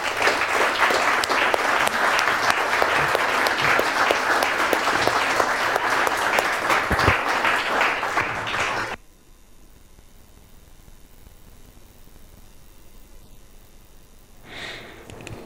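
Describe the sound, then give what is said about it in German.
An audience claps steadily in dense, sustained applause for about nine seconds, then it stops abruptly, leaving near-quiet with a brief breathy noise near the end. “Ich glaube, er sagt mehr über sich und zu euch und begrüßt ihn doch mit einem herzlichen Applaus.”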